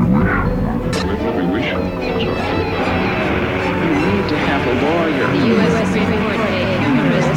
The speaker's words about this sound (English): Yeah, chanting. It's the Balinese monkey chant.